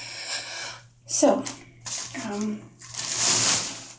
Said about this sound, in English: So, moving the shower curtain.